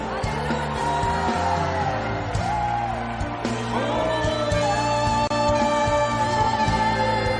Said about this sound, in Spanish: Pueden gritar aleluya, más fuerte aleluya.